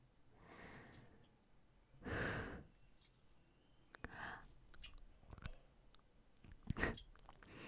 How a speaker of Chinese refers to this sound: 怎么了？咬了咬你的乳头而已。